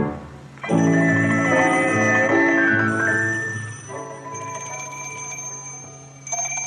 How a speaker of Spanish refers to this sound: Tío, está sonando el teléfono. Está sonando.